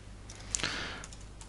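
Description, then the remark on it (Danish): A few quiet, scattered keystrokes on a computer keyboard as printf is typed into a text document, with one sharper clack in the middle amid soft background hum and no one speaking. “Jeg kan lave et tekstdokument. Åbne det, og så kan jeg skrive printf.”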